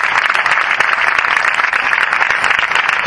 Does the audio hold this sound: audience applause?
yes